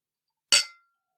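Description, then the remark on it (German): A single bright clink of glasses touching in a toast, sharp, with a short ringing tail that fades within a fraction of a second; no voices. “Stößchen, ihr Rührigs. Prost. Prost.”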